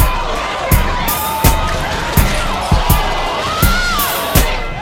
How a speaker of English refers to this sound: Check this out here, a crowd of shoppers rushing through the entrance at Eastland Mall in East Columbus this morning, knocking the doors right off their hinges. Extra police officers had to be called out to help with the crowd control here